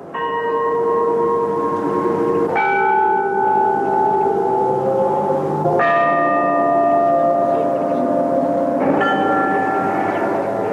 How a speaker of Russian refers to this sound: Звучат гефсиманские колокола. Подлинная запись.